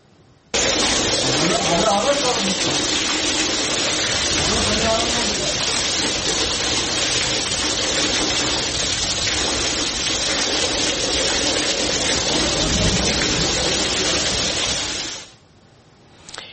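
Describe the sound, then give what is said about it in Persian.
Heavy rain and rushing floodwater from rainfall in Ahvaz, Khuzestan, where even Golestan Hospital flooded, roar in a dense, steady wash that cuts in abruptly and holds for about fifteen seconds before stopping, with faint voices partly buried beneath it. “حتی بیمارستان گلستان اهواز هم البته دچار آب گرفتگی شد و از این باران در امان نبود.”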